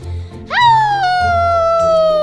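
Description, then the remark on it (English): A person imitates a werewolf howl: a single drawn-out cry that swoops upward sharply, then holds a loud, sustained tone that slowly sinks in pitch, over a low steady hum. “Delphine's been helping me with my werewolf howl. Listen.”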